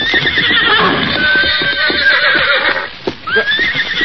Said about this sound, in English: look, there's a horse. Yeah, and coming this way. I don't see anyone in the saddle. Why, there isn't. Somehow that horse has lost its rider.